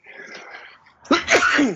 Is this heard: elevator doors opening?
no